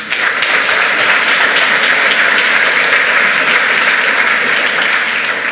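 A large audience claps steadily to welcome a speaker to a conference talk, a dense wash of many hands that stays loud and even throughout, with no voices standing out above it.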